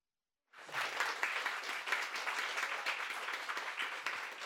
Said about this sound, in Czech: Já doufám, že ten veliký potlesk je slyšet i po všech tady vlnách dvojky ven